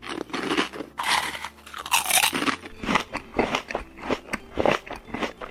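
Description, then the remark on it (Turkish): A bear eats honey noisily from a jar in a cave, with wet, crunching chews and smacking bites coming in quick, uneven bursts throughout, fairly loud and with no talking. “Bobo bir mağarada elindeki kavanozdan bir şeyler yiyen bir ayı gördü.”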